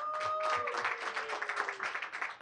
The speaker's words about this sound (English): If you're happy that today, April Fools, you're out tonight, make some noise for yourself. You survived COVID. Clap for yourselves.